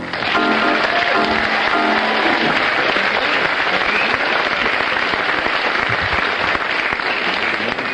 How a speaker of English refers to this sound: Well, according to the audience applause, you have a slight lead